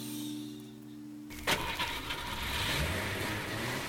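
A car engine turns over and roars to life after a moment of low hum, then keeps running in a steady rumble as Dobbins drives off in his car. No one speaks.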